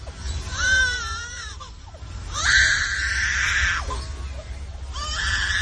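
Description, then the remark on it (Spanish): A lyrebird, an Australian bird, recorded at a zoo, mimics a crying baby: three drawn-out, wavering wails with rising and falling pitch, fairly loud, separated by short pauses over a low background rumble. “Es un ave lira, un pájaro que vive en Australia.”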